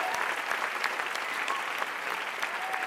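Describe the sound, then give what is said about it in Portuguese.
An audience applauds for Jesus during a sermon, a steady, dense wash of many hands clapping at an even level for about three seconds, with faint voices mixed into the clapping. “A primeira substituição, dá um aplauso para Jesus.”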